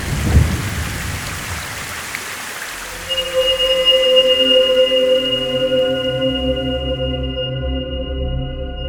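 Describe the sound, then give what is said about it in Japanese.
Steady heavy rain pours down with a deep rumble at the start; a few seconds in, sustained tonal drones rise over the downpour and hold to the end. No one speaks. “でもこの雨の中出ていくわけにはいかないし。”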